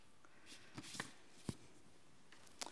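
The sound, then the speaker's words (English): Quiet paper handling as a new-home greeting card is opened: a few crisp rustles and sharp crackles of paper and envelope, scattered irregularly, with no one talking. “And this first card I'm going to open up, what type of a card do you think it might be?”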